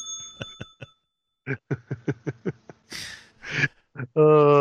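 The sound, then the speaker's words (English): A bell rings out with a few quick strikes and a lingering tone at the start, followed by a rapid run of rhythmic vocal sounds and a couple of noisy bursts. “Ring the bell.”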